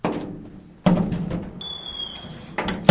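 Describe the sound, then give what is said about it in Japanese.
The front door of a house is handled and opened: a sharp thunk of the latch, a brief high metallic squeak as it swings, then another solid knock as it settles. No one speaks. “ドアの前にいるから開けてくれる？”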